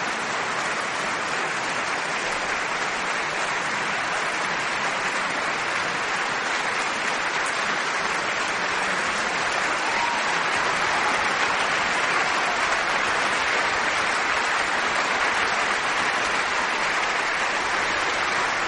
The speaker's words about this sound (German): Bravos und prasselnden Beifall. Hier gibt's im großen Sendesaal der NDR Radio Philharmonie des NDR hier in Hannover. Hilary Hahn ist noch einmal auf die Bühne gekommen, zusammen mit Eivind Wilberg-Jensen, und nimmt den Applaus des Publikums entgegen.